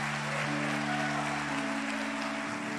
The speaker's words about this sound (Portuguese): Assim como aquele vale, pode aplaudir ao Senhor. Pode dar um brado de aleluia.